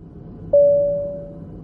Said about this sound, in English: The cabin crew put out a desperate call to the passengers. If there's a doctor on the plane, could you please press your call bell? The cabin crew were hoping to hear this.